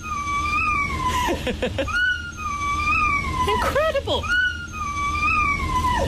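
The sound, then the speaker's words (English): A dog lets out long, high, wavering screaming howls that rise and fall in drawn-out cries, loud, broken briefly by a person's excited exclamations. “That is a dog, ladies and gentlemen. A dog.”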